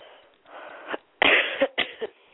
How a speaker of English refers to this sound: I'm coughing a lot. I have this nice cough syrup. Mm-hmm. But still coughing anyway.